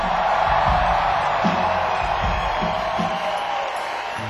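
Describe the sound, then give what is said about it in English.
Loud, sustained crowd applause with cheering and a few whoops, a dense wash of clapping that holds steady throughout and tapers only slightly at the end. “deserve a better round of applause than that.”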